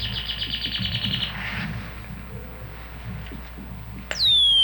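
A bird chirps in a quick, steady trill for about a second, then quiet background, and finally a loud, sharply descending whistled call near the end.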